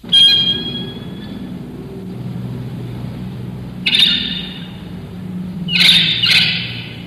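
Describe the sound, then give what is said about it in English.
Three squeaky, high-pitched bursts, like a clothesline pulley being cranked as a woman hangs out her wash at 6 a.m., rise over a steady low city rumble heard from five stories up. The first comes at the start and two more near the end. “hangs out her wash at 6 a.m.”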